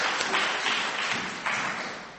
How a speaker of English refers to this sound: Another round of applause for Charlie. Charlie's creation.